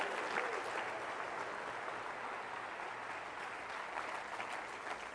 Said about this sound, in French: Est-ce qu'on peut l'applaudir ensemble?